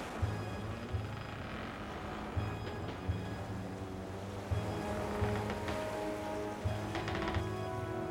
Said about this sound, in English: So please, if you can, turn down the lights, settle into a comfortable chair, close your eyes, and imagine yourself in the middle of the ocean on a sailing ship in 1862. Your ship is pounding into the waves, and a terrible storm is closing in on you.